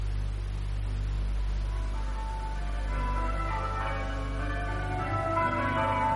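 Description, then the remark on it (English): Church bells ring, heard through an open window, their tones drifting in faintly over a steady low rumble and background hiss, with no voices present. “I thought you Bible punchers liked the sound of church bells.”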